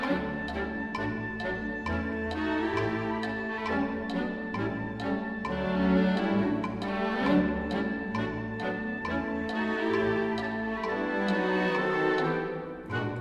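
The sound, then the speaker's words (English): Full orchestral music with crisp woodblock ticks keeping a steady clock-like beat, some clicks landing off the beat, all woven into lively strings and winds at an even, moderate loudness. “Anderson demonstrated his dry wit as woodblocks tick away, sometimes on the wrong beats”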